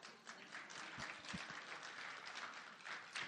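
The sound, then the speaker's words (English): A church audience claps steadily for a few seconds, a dense, sustained wash of many hands applauding together, with no one speaking over it. “I want to applaud you, but I got a microphone in my hand, and I can't.”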